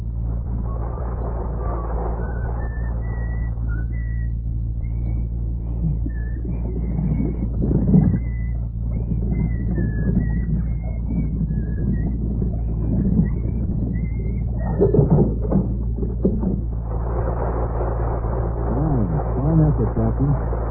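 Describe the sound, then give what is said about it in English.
A military lieutenant whistles the tune of "Anchors Aweigh" from a low position into the sails of a model warship to propel it, a string of short, high, bright notes carried over a steady low mechanical rumble, with clattering noise rising toward the end. “whistling anchors away from a low position to propel a model warship.”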